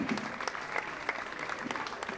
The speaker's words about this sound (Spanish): fuerte aplauso a la amiga Hispania de Abuela.